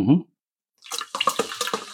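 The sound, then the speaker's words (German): Water pours into a glass in a steady, gurgling stream with bright splashy bursts, after a brief moment of voice and a short silence. “ich schütte mir schon mal Wasser ein”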